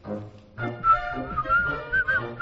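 human body sound, person whistling

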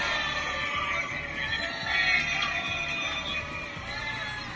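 crowd, crowd booing

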